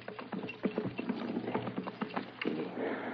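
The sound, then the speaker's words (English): Horses ridden by a group of men clop unevenly over rocky ground strewn with boulders, a scatter of sharp knocks in an irregular rhythm, moderately loud, with no voices. “These boulders are bad. Yes, my horse just stumbled on one.”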